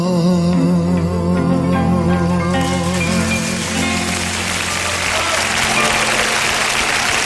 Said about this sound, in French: Un tonnerre d'applaudissements pour un artiste dans l'âme, un poète, un musicien exceptionnel, une légende africaine